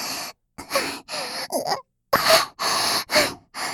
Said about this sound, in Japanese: 息遣いやばいですね。感じすぎてきついですか？